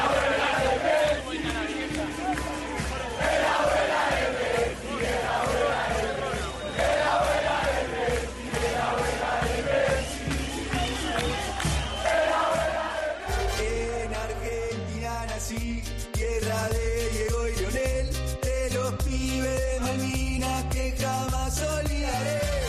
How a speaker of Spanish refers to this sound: En todo el país, desde Mar del Plata, Buenos Aires, Rosario, la Patagonia, incluso frente a la casa de la abuela de Messi, una multitud salió a la calle para celebrar la victoria de su selección frente a Croacia y el pase a la final